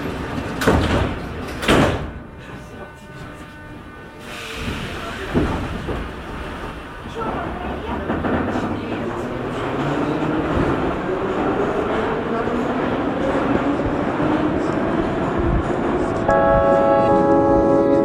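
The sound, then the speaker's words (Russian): Metro train doors slide and thump shut in a few quick knocks, then the electric motors whine upward in pitch as the train pulls away toward Belorusskaya station, the rumble steadily growing louder. “Осторожно, двери закрываются. Следующая станция Белорусская.”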